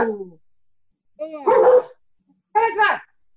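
A dog barks several times in loud bursts, with short pauses between, each bark rough and harmonic-rich; no one speaks.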